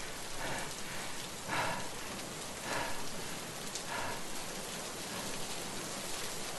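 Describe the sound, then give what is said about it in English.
Heavy rain pours steadily on a road, a dense continuous hiss with occasional louder bursts of drops, enveloping, with no voices present. “But after a minute out there in the pouring rain, the lights remained motionless.”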